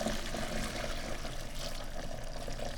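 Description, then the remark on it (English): Hot tea pours steadily into a second cup in one continuous stream, a bright splashing trickle that holds an even level for a few seconds with no one speaking. “Just pour the second cup, go.”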